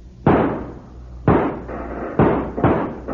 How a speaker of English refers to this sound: They'll come out when you open fire on Emmett and Bob. All right, let them have it, boys.